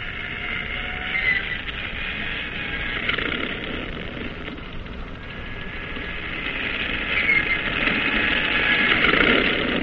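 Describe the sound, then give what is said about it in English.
A steady, droning airplane propeller engine starts and runs continuously on a plane aboard a cruiser's catapult, a dense mechanical roar with a faint whine, holding fairly constant and swelling slightly louder toward the end. “Propellers are whirling discs of light as the pilots climb aboard, settle down, and fasten their safety belts.”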